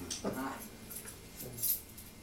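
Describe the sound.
Keys jangle at a door in a few brief, scattered metallic clinks, fairly quiet, with people talking in the background.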